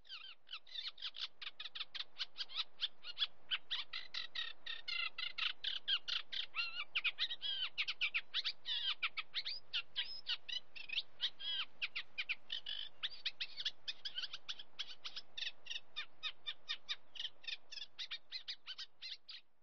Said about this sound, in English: Call of the Reed Warbler, ending today's Private Passions.